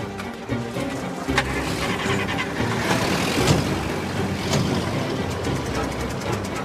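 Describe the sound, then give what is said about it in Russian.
A car engine rumbles steadily as a vehicle carrying Gotsman and operatives drives up to the cash office of the 6th motor depot, a continuous low motor drone with a few sharp clatters and bumps layered over it. “Гоцман с оперативниками подъезжает к кассе.”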